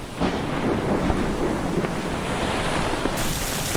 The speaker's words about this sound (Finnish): Nyt myrsky yltyy yltymistä.